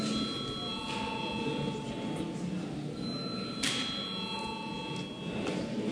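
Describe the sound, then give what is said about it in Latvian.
The chamber bell of the Latvian parliament (Saeima) rings continuously for several seconds to call a vote, a steady electric tone over a low murmur, with no talking. “Lūdzu zvanu.”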